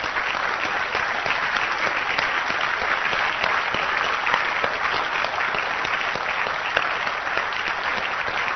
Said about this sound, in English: Blessed are they who have not seen, and yet they have believed. You deserve a hand.